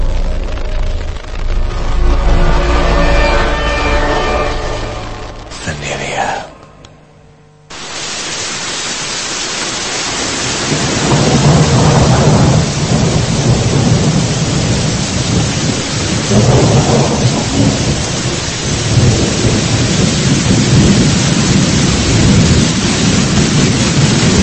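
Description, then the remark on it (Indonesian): Heavy rain pours in a dense, steady hiss on a Saturday night in Bandung while deep thunder rumbles and rolls repeatedly, loud, with a brief lull before the downpour surges back. “Malam minggu itu, Bandung diguyur hujan yang cukup lebat. Petir menyambar bersautan, dan awan gelap menutupi sekitaran langit.”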